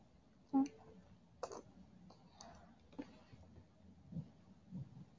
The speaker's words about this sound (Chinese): 弟弟，好喜欢舔你的耳朵啊。轻轻的咬着你的耳朵。